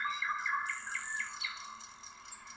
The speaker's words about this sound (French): Tu vois des oiseaux autour de toi, des oiseaux multicolores. Leur chant est agréable, comme une belle mélodie. Les oiseaux volent doucement.